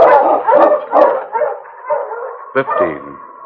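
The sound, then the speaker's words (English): A pack of husky sled dogs barking and yipping excitedly, their overlapping calls coming in loud bursts, with a sharp higher yelp and some howl-like whines toward the end. “On, you husky!”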